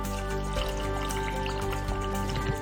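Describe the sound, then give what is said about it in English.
Liquid mixture, about a cup and a half from the water, pours steadily into a blender for a few seconds, a continuous splashing trickle over a faint background hum, with no one talking. “And then we're going to add around about a cup and a half of the mixture from the water.”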